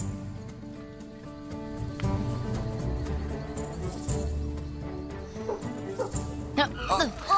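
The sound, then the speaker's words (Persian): A dog, Lassie, barks somewhere off in the distance, the faint barks set against a steady musical background, with a few higher, wavering vocal sounds near the end. “تو هم شنیدی صدای پارس کردنه؟”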